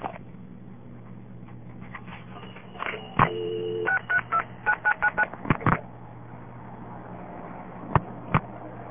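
A rapid run of touch-tone beeps as a phone number is dialed on a call to Seattle, each key a short, clear two-tone chirp, followed by a few sharp clicks over a low steady line hum.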